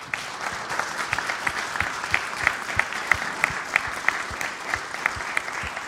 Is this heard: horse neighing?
no